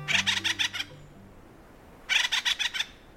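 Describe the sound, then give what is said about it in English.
Acorn woodpecker calls: two loud bursts of about six harsh, rapid, rhythmic squawking notes each, separated by roughly a second of near silence, with no voices. “Acorn woodpeckers love their acorns, so much so that they'll go to war over them.”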